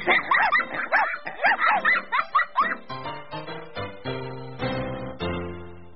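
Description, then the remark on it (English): A small dog yips and barks in a quick, excited burst of about a dozen high, loud sounds, followed by a few seconds of sustained melodic tones. “My dog and I play.”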